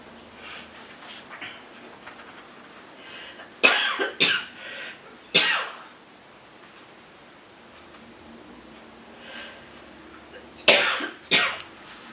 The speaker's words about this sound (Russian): Все сейчас будем кашлять и обмениваться возможностями кашля. И всего остального, да?